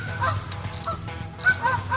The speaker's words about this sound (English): You're going to hear there's a pond on the other side of my property here, a lot of Canadian geese.